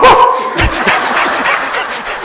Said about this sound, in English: But no, of course, that dog is just being a dog. I don't know why he barks, it's just the dog's nature to bark. I can't blame the dog for barking.